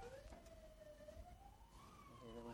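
An ambulance siren wails outside, its tone sliding slowly up and down in a steady sweep over a low rumbling background.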